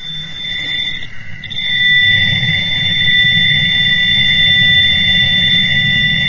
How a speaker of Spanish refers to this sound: De repente el wow. sonido de fondo del universo se empieza a comportar de una manera extraña, surge esta especie de pitido agudo.